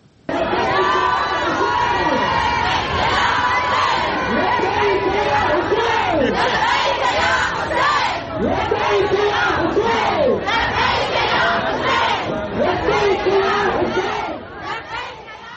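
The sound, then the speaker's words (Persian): A large crowd of women sings and cheers nonstop in the newly opened stadium in Karbala at the opening of the West Asian Games, their massed voices rising and falling in chant-like swoops, loud and dense throughout with bursts of shouting. “در جریان گشایش بازی‌های غرب آسیا در شهر کربلا، زنان با آزادی و بدون پوشش اسلامی در ورزشگاه تازه تأسیس این شهر حاضر شدند و حتی آواز هم خوندند.”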